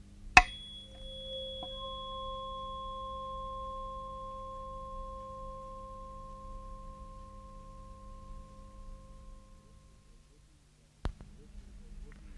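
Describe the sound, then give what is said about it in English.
A tuning fork tuned to C is struck once and rings with a clear, steady pure tone that slowly fades over about ten seconds; a faint hum sits underneath and a sharp tap sounds near the end. “This is a tuning fork, and the tune is C.”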